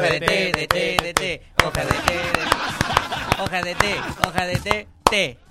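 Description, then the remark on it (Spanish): A group performs the 'hoja de té' (tea leaf) applause, a quick, rhythmic pattern of sharp, loud hand claps in short bursts counted in with 'uno, dos, tres', with voices chanting and talking underneath the whole time. “El aplauso de hoja de té, po.”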